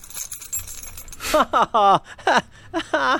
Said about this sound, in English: What if instead of an actual voice or instead of a person reading, like you just alluded to, maybe we just do some sound effects like keys jangling?